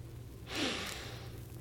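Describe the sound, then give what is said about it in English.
A single quick, airy inhale through the nose in a studio, fairly clear, standing alone over a faint low background hum. “Now put your nose right here. Now, sniff.”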